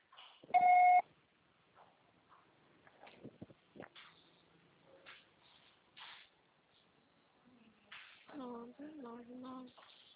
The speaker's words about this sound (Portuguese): Grave seu recado. Seu acessório será tarifado após o sinal.